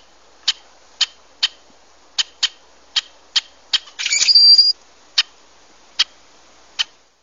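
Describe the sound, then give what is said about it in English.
A rusty blackbird gives a string of sharp, dry chack notes at an uneven pace, broken midway by a short buzzy, creaking burst ending in a thin high squeak. No one speaks. “and it's called a rusty blackbird, but you have to see it in pretty good light to see the tinge of brown around its head.”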